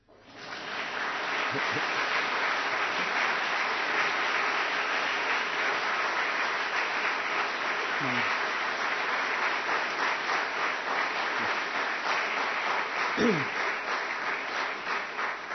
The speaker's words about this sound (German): Man darf auch klatschen.